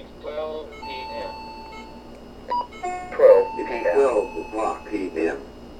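Many real and fake clocks go off together, with sustained electronic alarm tones overlapping a cluster of busier beeping and chiming sounds that swell louder in the second half, fairly loud.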